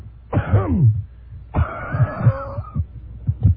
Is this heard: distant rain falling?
no